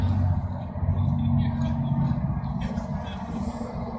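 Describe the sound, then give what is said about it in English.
Boat engines on a summer night drone in a loud, continuous low rumble with steady humming tones, the roar holding for the full few seconds and easing only slightly toward the end. “Wish they'd shut these fucking boats down. They're making quite a racket.”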